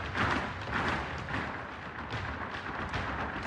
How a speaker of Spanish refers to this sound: Después, un aplauso versión taconeo.